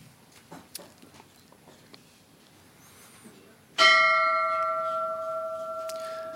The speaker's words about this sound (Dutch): Dat gezegd hebbende vraag ik aan de vicevoorzitter, meneer Bezuijen, of hij de bel wil luiden.